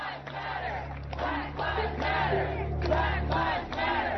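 A large crowd at BLM riots shouts and yells in a continuous, chaotic roar, with overlapping voices rising in repeated surges over a steady low rumble, loud throughout.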